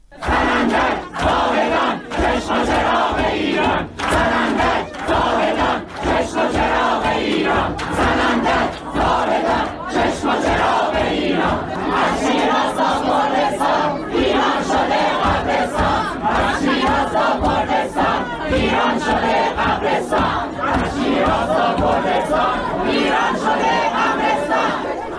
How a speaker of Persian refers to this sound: صدای اعتراض ها در داخل ساختمان نظام پزشکی شیراز رو میتونیم بشنویم که بعدتر گزارش شده اونجا هم بلافاصله ماموران امنیتی حضور پیدا کردند، گاز اشکاور شلیک کردند و به سرعت تلاش کردند که حاضران رو متفرق کنند.